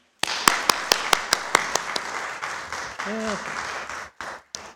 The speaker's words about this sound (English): Presbyterians applauding.